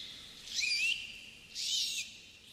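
A dolphin whistles twice, each call a high, bird-like tone with rising and wavering pitch, the two calls separated by a brief pause against a faint background hiss.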